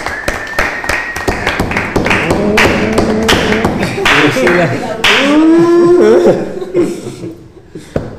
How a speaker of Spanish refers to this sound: Muchas gracias. Aplausos.